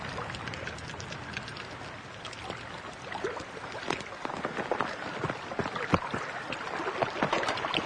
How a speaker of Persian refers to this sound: جابر کنار رود منتظر نشسته و سنگ آب میندازه